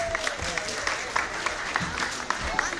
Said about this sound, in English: First two rows down. I'm sure as they go down, we could all give them a round of applause.